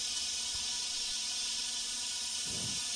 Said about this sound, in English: It's a steady stream of steam. Yeah, we can see. You can come at the Right. motel. Make sure you have like gloves or stuff because this steam's real high pressure and it can cut you.